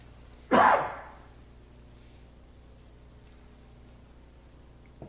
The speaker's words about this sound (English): I coughed. I do not have the coronavirus.